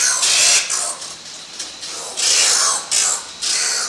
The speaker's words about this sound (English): The oil bird of South America, whose freakish snarls you're hearing, lives perpetually in the dark. It spends its days in the utter lightlessness of a cave, and its nights flying out in search of food.